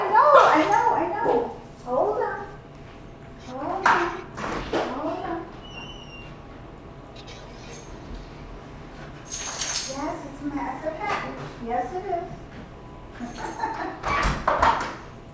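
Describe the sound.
A dog barks in short, irregular bursts at a delivered package, with a few sharp knocks or clatters mixed in and a person speaking intermittently alongside.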